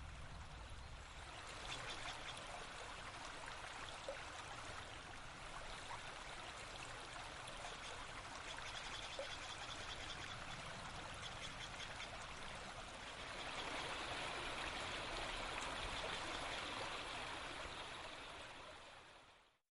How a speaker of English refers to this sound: We leave you this Sunday in a redwood forest and creek in Los Gatos, California, a quiet home for the humble newt.